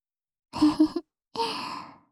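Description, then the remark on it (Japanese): Two close, breathy exhales blown right into the ear, the first short and faintly voiced like a soft sigh, the second a longer, steady airy breath trailing off. “私の吐息、感じたくなっちゃいました？”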